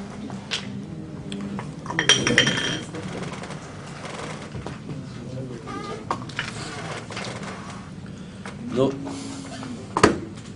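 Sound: glasses clinking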